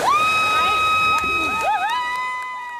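A crowd at Navarre Beach cheers and whoops with rising and falling shouts on a Saturday morning as a swimmer finishes a 20-mile swim from Pensacola Beach, a possible world record, while a loud, steady horn-like tone sounds continuously underneath, energetic throughout.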